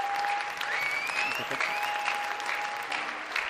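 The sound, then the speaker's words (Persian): Steady audience applause, a dense continuous patter of many hands clapping at an even level throughout, with a faint sustained tone running underneath and no one speaking. “خواهش میکنم حسابی تشویقش کنید.”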